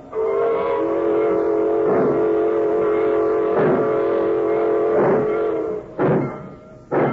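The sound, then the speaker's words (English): A freight train pulls out as a long, loud whistle blows steadily for several seconds, while heavy chuffing bursts repeat beneath it and gradually come closer together. “She's pulling out.”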